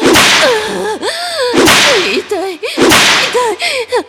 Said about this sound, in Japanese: しみる。水ぶくれになった、ムチの後に、再びムチ打つだなんて。